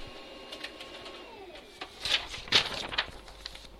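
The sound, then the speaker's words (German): An inkjet-style printer whirs and feeds out a sheet of printed sheet music, with a steady motor tone and a quickening burst of mechanical clicks and rustling near the end. “So, nach so vielen Jahren ist es gut, den Drucker wieder zu hören, wie er das Papier herauswuselt mit dem Notenblatt.”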